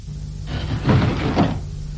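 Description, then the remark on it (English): A metal blind, closed by pressing a stud, slides shut over the hatch of a sphere with a broad scraping rumble lasting about a second, swelling twice before it stops, moderately loud over a low steady hum. “Cavour pressed the stud to close the blind, which covered the hatch.”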